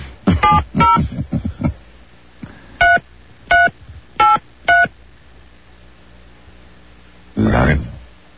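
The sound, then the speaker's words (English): Four crisp touch-tone keypad beeps sound one after another at an even pace, loud, as a 10-digit phone number is entered at an automated business telephone line prompt. A short burst of voice comes before them, and another brief voice follows a few seconds later. “To add a new business account, please enter the 10-digit phone number you want to discuss.”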